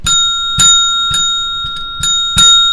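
A small bell, used as a gong, struck about six times at a steady, quick pace, each hit bright and metallic, its clear ringing tone sustaining between strikes. Fairly loud, with no talking.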